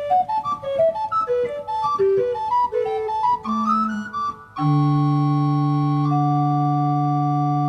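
A pipe organ's recorder-like flute stop plays a quick, lilting melody of pure, breathy tones, then settles into a long sustained chord that holds steady to the end.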